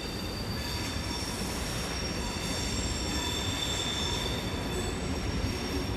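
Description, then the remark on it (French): A train rolls steadily along the tracks by Lausanne station in Switzerland, heard at the Plateforme 10 arts quarter a few dozen metres away. Its wheels give off sustained high-pitched squeals over a constant low rumble, with no one speaking. “Le bruit des trains accompagne les visiteurs de Plateforme 10.”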